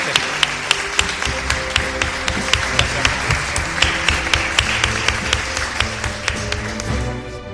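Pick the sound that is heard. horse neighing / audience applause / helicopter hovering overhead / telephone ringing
audience applause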